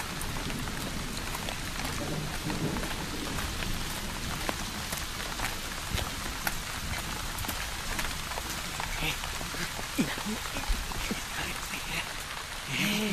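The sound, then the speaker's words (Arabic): Steady rain falls continuously, a dense hiss of drops spattering on surfaces with scattered sharper taps, holding an even loudness throughout without any voices. “هيا لنذهب، الجو ممطر.”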